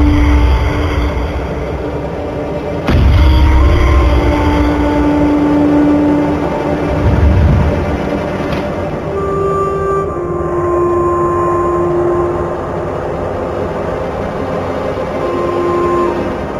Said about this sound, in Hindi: गाड़ी आ गई है, उसका पैसा भी दे दिया है